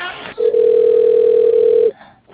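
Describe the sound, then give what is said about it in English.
A single steady telephone tone holds for about a second and a half, loud, as a call is transferred to a different phone, with brief muffled handling noise before and after. “Let me transfer to a different phone that's closer to my computer.”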